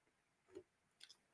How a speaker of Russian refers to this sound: Я пью воду, а не кофе.